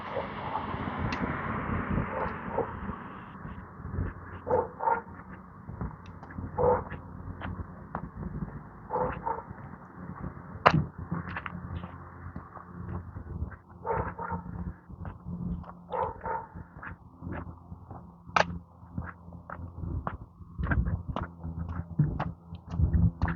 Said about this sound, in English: City's here with their trucks. I think they're cleaning out the storm drains. We got some sort of big suction thing going.